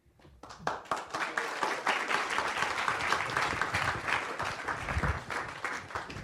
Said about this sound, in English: Once again, please, please give a big round of applause and our heartwarming thanks to Prabhuji. Hari Bol.